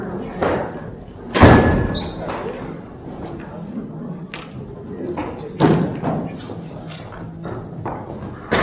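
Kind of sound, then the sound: household object, door being closed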